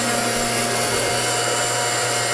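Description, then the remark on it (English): A blender runs steadily and loudly the whole time, a constant whirring motor roar with a steady humming whine and no voices. “Can't hear a thing while that's blending.”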